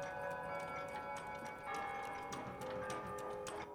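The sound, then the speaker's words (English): Many clocks tick at once in a clock and watch repair shop in Brooklyn, an overlapping, uneven clatter of small sharp clicks, with a faint sustained ringing tone beneath. No one speaks. “In a clock and watch repair shop, a man wearing glasses with special lenses attached is mending a timepiece.”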